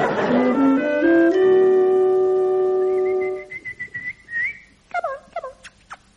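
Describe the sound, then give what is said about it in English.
A woman whistles alone at cucumbers, starting with stepped rising tones, holding a steady high whistle, then ending in a few quick downward-swooping, bird-like chirps. It is fairly loud. “She did combined impressions of Percy Edwards and Percy Thrower. She whistled at cucumbers.”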